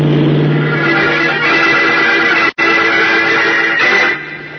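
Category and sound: vehicle, car roaring past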